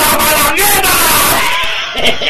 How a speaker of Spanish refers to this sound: ¿Qué es eso, Dios mío? Oye, estábamos todos románticos y de repente el grito